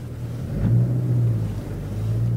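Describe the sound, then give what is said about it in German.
A car drives along with a steady engine drone, a deep rumbling hum that swells slightly midway and stays constant throughout, with no voices; driving from a fruit-growing site to a viticulture test site in Lower Franconia, Germany. “Vom Obstbaugelände sind es nur ein paar Minuten mit dem Auto bis zur Versuchsanlage für Weinbau.”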